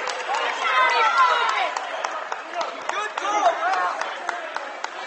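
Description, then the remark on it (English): A gymnasium crowd of Fort Loramie fans roars steadily throughout, cheering on their basketball team in a game against Fairlawn, a dense wash of voices cheering together with sharp scattered claps and squeaks punctuating the noise, continuous. “Fort Loramie crowd cheering on the Redskins behind us.”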